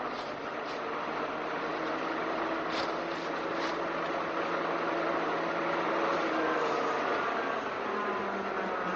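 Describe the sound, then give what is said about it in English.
A car approaching on a narrow road: its engine drones steadily with a low, rumbling hum and broad road noise, holding a fairly even loudness before its pitch dips slightly near the end. No one speaks. “Lummy, It's a car. We'd better move right over. The road's so narrow, he'll hardly get past us.”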